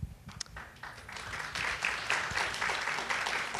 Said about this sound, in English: When Mark Burnett tells you to applaud, you applaud.